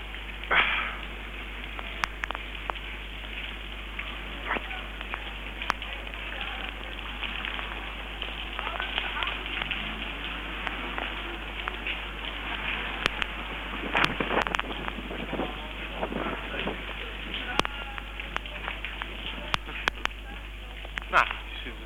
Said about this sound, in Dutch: Het regent nog steeds overigens.